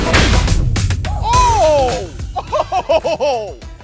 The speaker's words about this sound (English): and it clocks balls up to 900 miles an hour, and we smoke the thing like it's just air. Oh my goodness. So we're breaking sound speeds, yep. Right? Yep. Supersonic. Holy cow. Fastball, shot number one out of the cannon. No turning back now. 3, 2, 1.